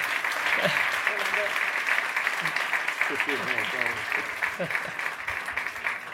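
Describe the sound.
Steady, dense audience applause for a photographer receiving an award fills the whole stretch at an even loudness, with scattered voices calling out and murmuring beneath the clapping.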